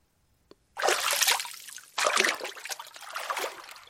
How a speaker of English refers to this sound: then walked into the waves.